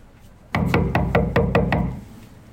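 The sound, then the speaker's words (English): Firm knocking on a front door at an apartment housing complex, a quick, evenly spaced run of about six raps, fairly loud, with a short ringing tail and no voices; nobody answers. “Nobody answers the door. We give it a few more knocks and wait.”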